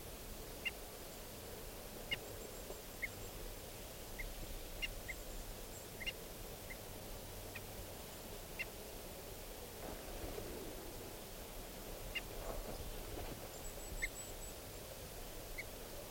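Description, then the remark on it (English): Decoy birds give short, sharp alarm calls, repeated irregularly every second or so, fairly faint against a steady background hiss, with no one speaking. “These are the alarm calls of the decoys.”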